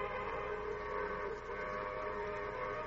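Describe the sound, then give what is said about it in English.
A steam train whistle blows one long, steady, fairly loud blast as the train signals it will stop at a railroad station, its rich tone holding for the whole moment without a break, sounding alone with no voices. “It's a place where the train doesn't stop unless it has passengers to discharge. And when it does, it signals with the whistle.”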